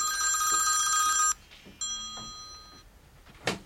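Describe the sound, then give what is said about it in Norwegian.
A telephone rings with a bright, warbling electronic tone: one long ring, then after a short pause a second, quieter ring that cuts off, with no one speaking. “Fram til jeg ringte etter bisettelsen.”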